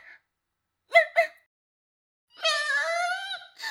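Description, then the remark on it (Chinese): A person down on the ground on all fours imitates a dog in front of many onlookers: two quick, clipped barks, a pause, then a longer drawn-out yelping howl, fairly loud with nothing else around it. “这样太羞耻了，竟然在这么多闲人面前趴在地上学狗叫。”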